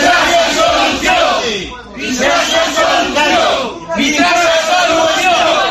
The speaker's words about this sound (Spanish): Lo que escuchas son gritos de los trabajadores de Vitrasa esta mañana en el Pleno Municipal de Vigo. Fueron hasta allí para exigir una solución al conflicto laboral que mantienen con la concesionaria del servicio urbano de autobuses desde hace 2 años